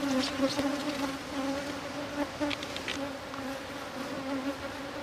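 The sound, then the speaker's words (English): A steady, droning hum of many honeybees flying and buzzing around a hive at a temperature of about 13 degrees C, continuous, with individual bees whirring past now and then and no voices. “They're certainly quite active now, flying and buzzing all around about us.”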